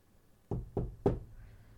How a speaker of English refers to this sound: Okay, maybe I should just knock on his door.